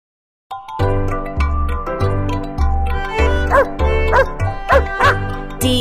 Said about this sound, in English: D-O-G. This is a dog. D-O-G. This is my dog.